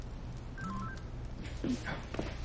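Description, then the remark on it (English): A short electronic phone alert chimes as an email arrives on a woman's phone, a quick pair of descending beeps over a low background hum, followed by soft rustling and faint voices. “Her phone.”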